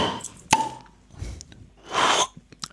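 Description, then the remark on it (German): A single sharp pop rings out as a bottle of apple drink is opened, followed moments later by a short burst of fizzy hissing; a few small clicks and taps come near the end. “Und jetzt wird man schon das Besondere hören. Man wird es hören. An diesen Flaschen.”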